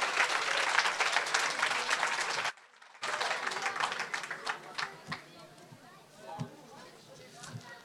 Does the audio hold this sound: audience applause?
yes